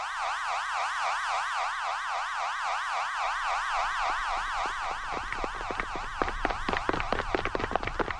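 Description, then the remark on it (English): A loud shelter warning siren at Camp Shamrock, signalling everyone to take shelter, wails with a fast, steady warble, then breaks into a choppy, pulsing rhythm during the last few seconds, with no voices. “And we have a paging system and a siren, and you know everybody will know. It's a siren goes off, and they know that they have to take shelter.”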